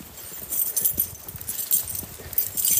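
A bunch of keys jangles in a series of bright, metallic clinks that shift irregularly, swelling in loudness now and then, with no talking over it.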